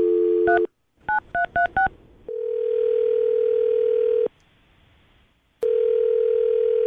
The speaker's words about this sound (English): Okay, well, I'm going to dial her phone number right now and see if we can figure out what the problem was. Here we go.